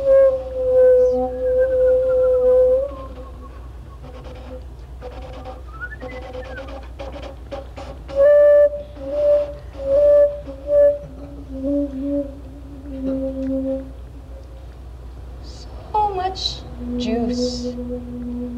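Someone whistles in long, wavering tones and short bursts, as if calling an animal, with a faint low background rumble and a few brief higher chirps near the end.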